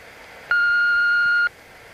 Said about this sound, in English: You have telephoned Wayne Manor. Kindly leave a message after you hear the ridiculous beep.